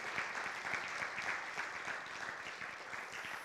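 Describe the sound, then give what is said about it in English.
A crowd claps steadily for the praise team, a dense, even wash of many hands applauding at a constant level without a break, with no voices rising above it. “All during the week, plus Thursday night, Friday night, very, very early Sunday morning here to rehearse and practice, and just give them a round of applause, if you would.”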